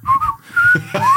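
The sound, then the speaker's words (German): A forester whistles a short, wavering tune of a few sliding notes, fairly loud, over faint low background noise. “Genau, weil der pfeift. Selbst wenn der sich anstreicht, pfeift der.”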